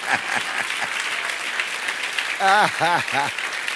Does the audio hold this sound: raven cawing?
no